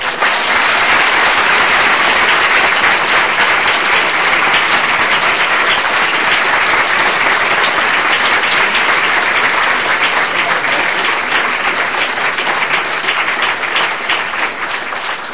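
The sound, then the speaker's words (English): Sustained applause from a large audience, a dense, steady wash of many hands clapping at full volume for about fifteen seconds without letting up. “Before I close, and I think you might have clapped for a lot longer if I hadn't have stopped you.”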